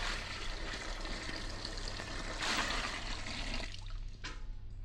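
A steady rush of water, a gallon of water from Niagara Falls, pours continuously into a witch's cauldron, a broad splashing roar that swells briefly near the end before tapering off, with no voices present.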